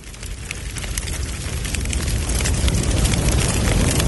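A fire crackles steadily with a dense stream of sharp pops and snaps over a low roaring rumble, fairly loud, growing slightly stronger throughout.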